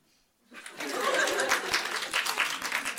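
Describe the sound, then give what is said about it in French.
An audience applauds to answer a question about whether withdrawal is frustrating. The applause starts abruptly after a brief quiet moment, then continues as dense, steady clapping with scattered brighter claps, a few voices and laughter mixed in. “Par applaudissement, est-ce que c'est frustrant le retrait?”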